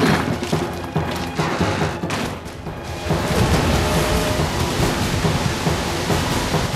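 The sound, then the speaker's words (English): A roaring torrent of flood water surges as a giant wall of water down an alley, a dense wall of rushing noise that swells louder partway through as it crashes heavily into a large metal skip. “The giant wall of water charges down the alley and smashes into the skip.”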